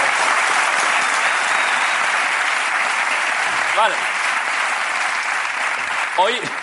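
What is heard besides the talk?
audience applause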